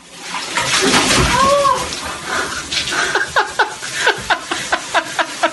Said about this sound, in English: a guy pulled on his wife by dumping ice-cold water on her while she was in there showering